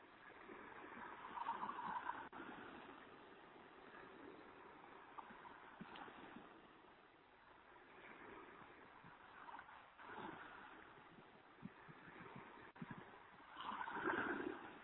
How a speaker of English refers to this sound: I'm sitting here by the ocean in North Bali right now. It's about an hour after sunrise. You might be able to hear the waves. Just tune into that soothing sound.